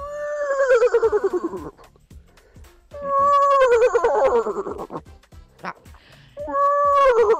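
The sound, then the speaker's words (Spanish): A horse neighs three times in a row, each whinny loud with a shrill, quavering pitch that trails downward, separated by short quiet gaps. “Ahí está relinchando.”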